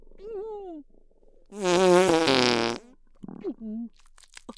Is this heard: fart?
yes